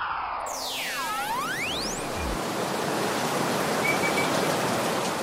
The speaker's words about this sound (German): Oh nee, es regnet. Oh, wie aus Gießkannen.